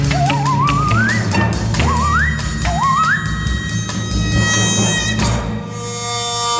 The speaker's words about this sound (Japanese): でポワワやるんですかねこれ。時々長い。これは相当すごいノコギリプレイですよねこれね。一発撮りだったんだろうな。すごい録音風景だったような気がする。